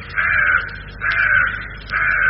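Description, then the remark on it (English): Three harsh, raspy caws from crows startled by the boom of a morning gun repeat at a steady pace, each loud, with short pauses between them and no other sounds around. “And I know what used to startle was the crows would get startled.”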